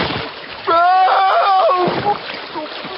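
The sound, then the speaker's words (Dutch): Water splashes and sloshes as a man who tripped over a tree root loses his balance and falls forward into a small, fast-flowing river, while a drawn-out vocal cry rises over the churning water for a second or so before it fades. “Hij verloor het evenwicht en sloeg voorover in een riviertje.”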